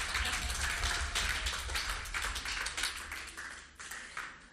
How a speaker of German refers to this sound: Und vielen, vielen Dank für euren Mut, einfach hier auf die Bühne zu kommen und das mit uns allen zu teilen. Gebt ihm doch mal einen Applaus.